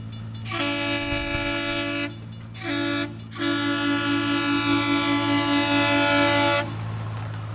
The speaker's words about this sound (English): Okay, trains. Trains.